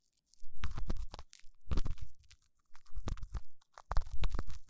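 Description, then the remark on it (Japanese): Ear pick scraping inside an ear, heard as four rough bursts of crackling, rumbling scratches with short pauses between them, fairly loud, with no voices. “ま、私も他人に耳かきをするのは初めてなんだけどね。”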